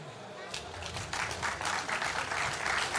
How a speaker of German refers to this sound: Gebt euch selber einen Applaus dafür, falls hier jemand ist. Ey, die anderen können auch applaudieren.